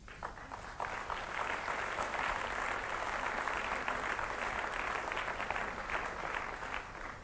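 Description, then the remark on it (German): A crowd applauds steadily in a cinema hall at the University of Maryland, with dense, overlapping hand claps that stay loud and even from start to finish, with no voices rising above them. “Also bei Gott hätten sie auch ruhig klatschen können.”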